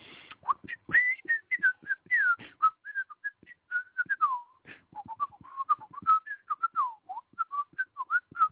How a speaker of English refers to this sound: You like that freestyle whistling?